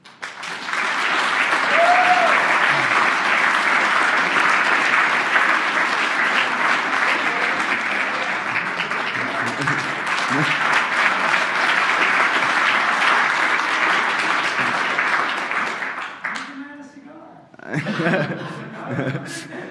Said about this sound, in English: And so and I think we should get someone a special applause